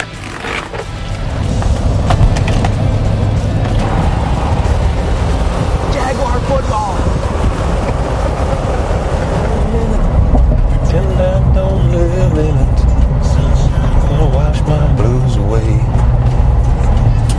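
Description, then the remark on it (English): Steady low rumble and road noise from inside a moving car, loud and continuous throughout, with muffled voices speaking faintly over the drone in the second half. “I was like, I wonder if this mic can pick me up in that car.”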